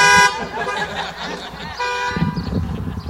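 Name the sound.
car horns honking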